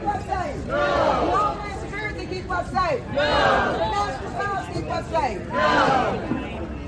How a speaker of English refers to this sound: At the same time, we see protests breaking out in other places throughout D.C. Free D.C. Then we have more protests.